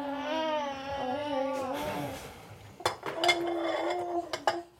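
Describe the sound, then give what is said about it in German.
Dishes and cutlery clatter as someone washes up in a small fitted kitchen, sharp clinks and knocks arriving in irregular bursts, after a baby's whiny, wavering cry in the opening seconds. “Überall stapelt sich Geschirr, auf dem Herd blubbert eine Fertigpastasoße vor sich hin.”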